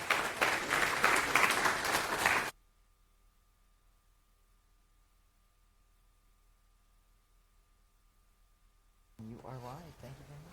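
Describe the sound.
An audience applauds a speaker introduced for a talk on IPFS, in a loud, dense burst of clapping for a couple of seconds, then it cuts off abruptly into a long near-silent stretch before a voice begins speaking.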